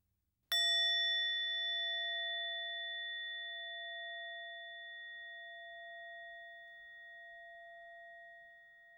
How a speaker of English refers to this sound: Each time you hear the bell, let it take you more deeply still into the experience of peace.